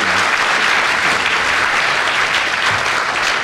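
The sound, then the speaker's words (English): Sustained applause from a large audience, a dense, steady wash of clapping that stays loud and even throughout with no pauses or voices standing out. “That was line was drowned in the applause, Peter.”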